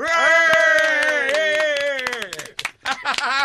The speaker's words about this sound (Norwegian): Min damer og herrer, stor applaus!